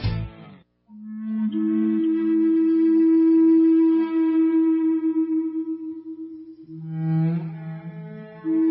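Native American flute plays slow, breathy melody of long held notes, one low tone sustained for several seconds before sliding to a lower pitch, with soft swells in volume and no voices.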